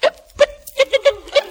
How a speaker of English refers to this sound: Hiccups